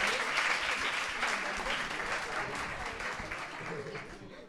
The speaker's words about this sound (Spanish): Raro es la vez que llegamos a la última pregunta y de 20 habéis contestado 19, así que un favor, un otro fuerte aplauso para vuestros compañeros.